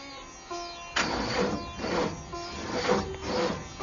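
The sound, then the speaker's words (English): The Magic Bus in a computer simulation breaking down in the desert: a low mechanical hum gives way to a series of harsh, rasping grinding bursts that sputter on and off in an uneven rhythm, with no one talking. “Sounds like the Magic Bus is broken down.”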